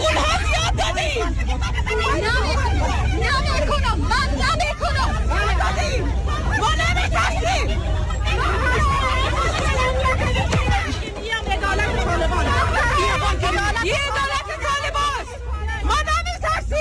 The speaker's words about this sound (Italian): Sentiamo udibilissime le voci di donne che urlano, che gridano, che dicono: abbiamo dato tanto sangue